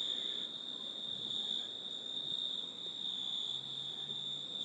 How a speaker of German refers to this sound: Die Grillen. Ja, irgendwie Grillen oder Zikaden oder irgendwas ist hier in den Hecken, in den Bäumen. Und macht einen Heidenlärm.